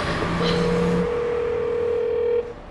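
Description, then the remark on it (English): A phone's ringback tone sounds once, a steady electronic hum lasting about two seconds, over the constant rumble and road noise of a car speeding through nighttime streets. “Pick up, pick up, pick up.”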